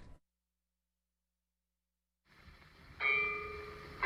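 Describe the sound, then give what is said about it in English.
Church bells ring at 12 o'clock in the daytime after a stretch of near-silence and faint rumble: one loud strike hangs in a sustained, slowly fading tone, then a second strike begins right at the end. “What did I hear at 12 o'clock in the daytime? Church bells ringing?”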